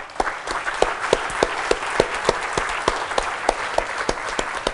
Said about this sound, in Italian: Un bel applauso.